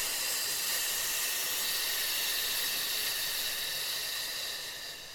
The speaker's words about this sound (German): Wenn die Luft zu Ende ist, fällt der Bauch wieder raus und wir atmen tief in den Bauch ein. Und auf F wieder ausatmen.